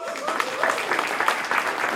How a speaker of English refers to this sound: They're awesome. Give them a clap.